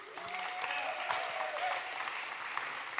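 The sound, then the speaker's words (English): A crowd claps steadily in dense, sustained applause, a broad hiss of many hands with a few sharper claps standing out and faint voices calling beneath it. “if once again we can say bless God, but do so with raucous applause.”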